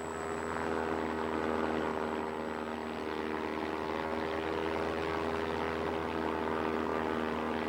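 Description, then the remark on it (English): A steady, loud drone of the propeller engines of a formation of 8 bombers over Woodland, Washington fills the whole stretch, with strong low harmonic hum and a constant throbbing texture. “Plane V843 over Woodland, Washington. Lieutenant Vo, commanding 8 bombers.”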